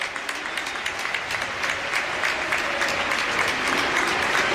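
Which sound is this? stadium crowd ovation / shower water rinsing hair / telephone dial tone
stadium crowd ovation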